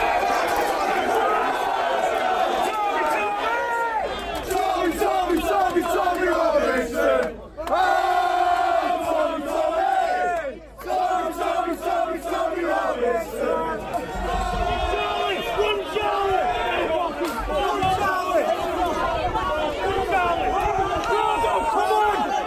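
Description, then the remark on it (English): A large crowd of over 100 Muslim people shouts and yells aggressively, pushing to get to the side of a Tommy Robinson rally, over a constant roar of voices, with overlapping cries rising and falling as people surge and run, loud throughout with only a couple of brief dips. “You're not going to hear about this, about the aggression from almost, definitely over 100 Muslim people pushing, trying to get to this side, throwing”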